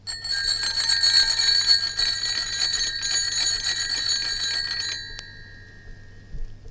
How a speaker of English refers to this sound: That was Bicycle Bells' Several Ringing from the BBC Sound Archive, complete with crackles on the recording.